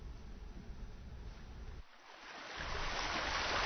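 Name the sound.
flowing river water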